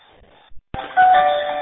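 A telephone starts ringing abruptly after a moment of near silence during an amateur radio session, a bright electronic ring tone that holds steady and fairly loud, with no one talking.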